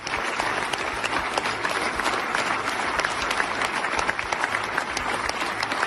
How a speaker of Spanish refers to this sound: Mientras tanto, en el Parlamento Europeo, el presidente ucraniano Volodymyr Zelensky, obviamente por videoconferencia, ha recibido la ovación cerrada de los diputados.